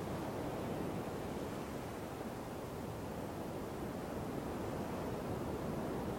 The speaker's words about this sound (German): Im Hintergrund hörst du, wie die Wellen die Muscheln an den Strand spülen.